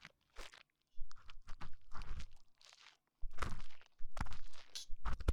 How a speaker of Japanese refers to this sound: 気持ちいいんですよね、私の耳かきが。嬉しいです、あなたに喜んでもらえて。